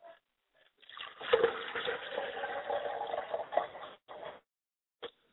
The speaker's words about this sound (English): And now we're getting ready to pay homage to our mother spirit, Yamanja, and we pour libations to Yamanja. Our yeye, we say Ashe.